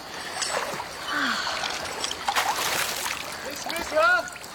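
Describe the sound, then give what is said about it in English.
Water sloshes and splashes steadily in a high river with strong currents, with louder bursts of splashing near the end and faint voices or calls rising briefly over the churning. “the water is so cooling. Be careful, the river is very high today. Strong currents.”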